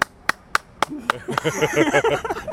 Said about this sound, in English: And I think that pressured a bartender to clap too.